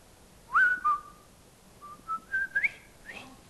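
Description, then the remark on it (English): A person whistles the Colonel Bogey March, a bright, jaunty march melody, clear tonal notes rising and falling in a bouncy rhythm with a short pause midway, the whistle alone and fairly loud. “Some of the best walking music, Colonel Bogey.”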